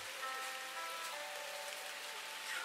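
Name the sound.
raindrops falling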